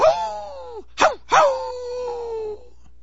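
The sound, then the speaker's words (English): A man imitates another man howling like a dog, who knelt on the ground like a dog in front of Jackson Square on Mardi Gras night in 1973: a wavering howl that sags downward, a quick sharp yelp, then a longer sustained howl slowly falling in pitch, loud and alone with no talking. “And I went over to this guy, and he was howling.”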